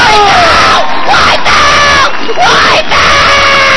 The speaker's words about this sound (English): the champion lets out a blood-curdling scream. That stuff's gonna sting.